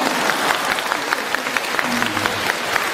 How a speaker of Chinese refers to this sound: 鼓掌。